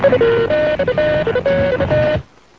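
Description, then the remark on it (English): A rapid sequence of electronic telephone tones during a phone scan to clear call lines, stepping between a few pitches in short beeps and held notes, plays loudly for about two seconds and then cuts off into near silence. “All right, let's do a phone scan.”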